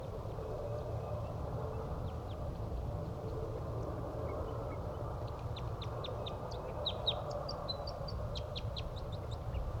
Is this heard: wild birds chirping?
yes